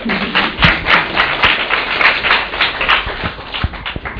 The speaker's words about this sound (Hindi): या ताली बजा.